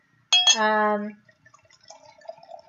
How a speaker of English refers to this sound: It's sketchy, but it's really good. So I'm going to pour myself another glass.